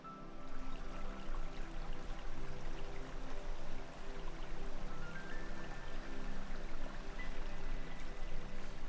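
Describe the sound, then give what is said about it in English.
A stream ripples and splashes steadily over stones beneath a white footbridge in a garden, a continuous gentle babble at an even level for the whole stretch, with faint sustained tones humming underneath and no voices. “You can hear the water as it splashes over the stones, a gentle rippling sound.”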